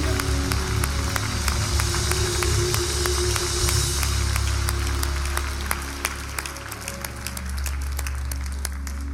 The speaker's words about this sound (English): Now give the Lord a hand clap of praise.